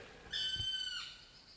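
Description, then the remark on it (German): A black woodpecker with a bright red crest gives a single drawn-out, ringing call lasting under a second, clear, then the sound fades into quiet outdoor background with no one talking. “Und es sind wirklich schöne, relativ seltene Vögel. Und so ganz schwarz, in einer knallroten Federhaube.”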